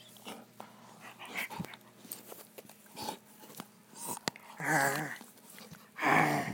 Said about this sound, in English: So he's just being a silly puppy. He's rolling around. He's got his belly up in the air.